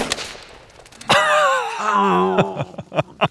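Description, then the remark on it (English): One sharp, loud rifle shot, fired through a scope at a target among a set of bottles, cracks out, immediately followed by a wavering, wailing vocal cry and a few scattered clicks and knocks as it trails off. “And when you're ready to shoot, start breathing out real slowly. Squeeze the trigger and...”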